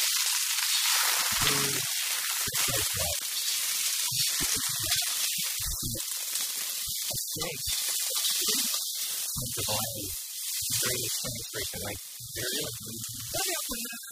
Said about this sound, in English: It's time to talk snacks. It's time to talk food. Let's get some sizzle going, Mr. Marathon.